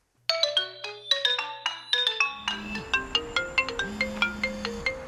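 mobile phone ringtone

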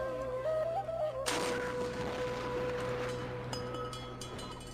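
ramadan iftar cannon firing

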